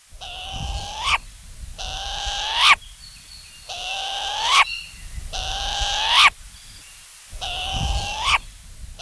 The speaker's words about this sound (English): We've got the call of the short-eared owl on today's Mana Minute.